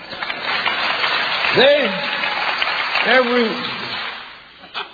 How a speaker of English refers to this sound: Applause, women.